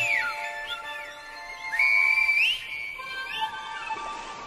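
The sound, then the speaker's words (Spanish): Shrill whistled language in the Silbo style, with several sliding, rising and falling whistles, the loudest held in the middle, over a soft steady backdrop of sustained tones. “Sur le volcan de la balade, El Silbo perce la fumée.”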